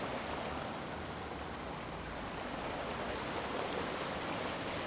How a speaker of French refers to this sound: La cascade, les galets, mais où va cette eau qui coule?